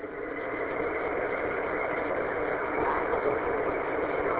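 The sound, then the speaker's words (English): A car engine runs steadily at a low idle-like drone while the driver commutes to work, a continuous, even hum with no speech, sounding muffled and narrow as if heard from inside the vehicle. “I just hopped in the car on a little commute to work and heard the net going on, so I just wanted to pop in and say hi.”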